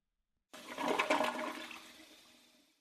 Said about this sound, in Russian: Так, в 1830-х годах там появляются первые туалеты со смывом.